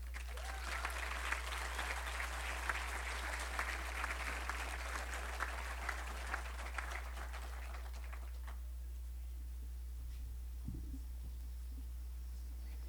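An audience applauds with a dense, steady clatter of many hands for several seconds, then the clapping thins and dies away, leaving a low background hum.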